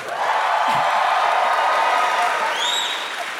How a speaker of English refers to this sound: No, that's nice. You got some applause this time. That was good.